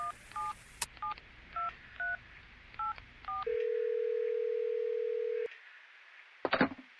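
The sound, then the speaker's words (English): A quick run of about eight short telephone keypad tones, each a clipped two-note beep, followed by a long steady tone and a brief crackling burst near the end. “Is that your phone? I think my phone's tapped. It's messing up.”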